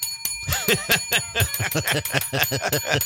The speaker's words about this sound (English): could I have a bell? Could you give me one, please?